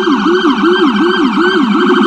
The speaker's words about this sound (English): There's the sirens and, of course, the car horns. And some New Yorkers have had it up to here.